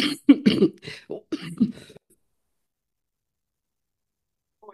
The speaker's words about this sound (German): Der Husten. Oh, Oh der Husten, Mensch. es ist, Ja. also es ist der Monstervirus, ich sag es dir das.